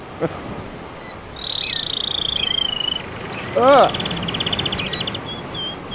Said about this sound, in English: I found a YouTube video called Canary Singing, the Best Canary Trio in the World, Canary Training Volume 2, 42 minutes long. Yep, wow. Canary Trio Volume 2.